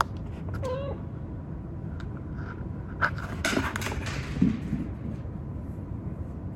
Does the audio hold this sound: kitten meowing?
yes